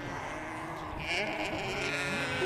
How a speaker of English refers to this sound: Look totally different to New Zealand Romney and the other the sheep that we have over our hills and properties. These sheep really don't know that they're sheep. Oh, they're walking away. They're very quiet. Oh, here they come, yes.